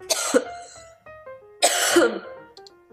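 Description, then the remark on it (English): Two harsh, throaty coughs about a second and a half apart, fairly loud, with a faint tonal hum lingering between them. “Siri picked up your coughs.”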